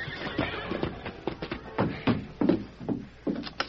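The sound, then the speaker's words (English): A horse whinnies and snorts over a steady clatter of hooves that slow and stamp as a cowhand reins it in in front of a sheriff's office. There are no voices, and the sounds come in loud repeated bursts. “Early the following afternoon, a cowhand from one of the outlying ranches hurriedly drew rein in front of the sheriff's office.”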